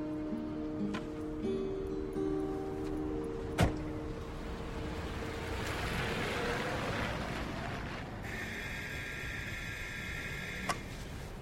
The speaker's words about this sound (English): Later, after dark, the neon lights of New York City twinkle as Frank rides in a yellow cab down a suburban residential street. The cab pulls up outside a detached house with trees flanking the front entrance.